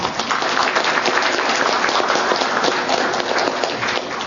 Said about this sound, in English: Let's give them a hand.